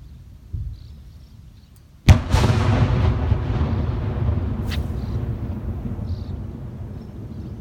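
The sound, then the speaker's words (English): A single artillery blast hits suddenly, then rolls into a long, heavy rumble that slowly fades but lingers to the end. A softer thud comes just before it, and no one speaks. “The artillery's going off, whatever, and he's there fishing.”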